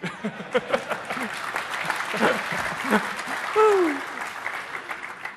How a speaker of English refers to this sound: And sorry, I didn't mean to interrupt the applause, but.